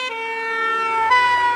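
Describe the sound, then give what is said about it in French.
A fire engine siren blares loud as the fire engine approaches and passes, a sustained bright tone rich in overtones that shifts slightly in pitch partway through, with a low engine rumble growing underneath. No one speaks. “Une voiture de pompiers s'approche de nous. Et sa sirène nous semble de plus en plus aiguë.”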